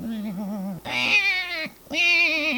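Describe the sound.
A voice imitates a newborn baby mouse crying, just born to Mother Mouse in a story: three wavering, whiny squeals, the first lower and warbling, the next two higher and more strained, with brief pauses between.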